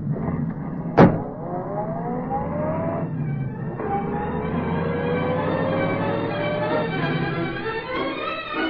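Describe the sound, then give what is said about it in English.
A car door thuds shut, then a police squad car's engine roars and revs up hard, climbing through the gears with a brief break as it speeds away in pursuit of the Green Hornet car, loud. No voices. “Get in that squad car”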